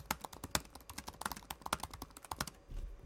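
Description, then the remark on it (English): Rapid, uneven clacking of keys on a loud, clicky computer keyboard, typed normally without stomping, sharp bright taps in quick irregular bursts, fairly loud, with a low rumble as the typing stops at the end. “This is how I type, okay?”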